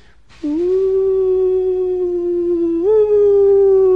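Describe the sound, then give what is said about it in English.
A single long wolf howl in a forest at night, loud, holding a steady mournful pitch for several seconds before stepping slightly higher near the end, with no talking. “Uh-oh, I hope that's not a wolf.”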